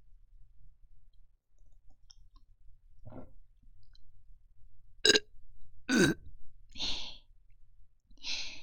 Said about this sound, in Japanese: 聞こえる？ゲップの音。